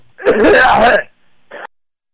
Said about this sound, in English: Just clear your throat.